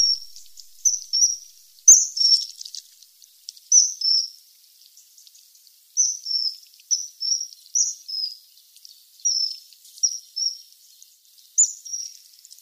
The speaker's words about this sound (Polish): A oto zimorodek.